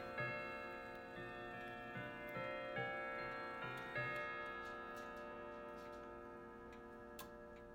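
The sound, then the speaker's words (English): A clock ticks steadily beneath bright ringing chime tones that strike several times and slowly fade, the clock chiming what should be eight o'clock. No one speaks. “See what it chimes. It's meant to be 8 o'clock now.”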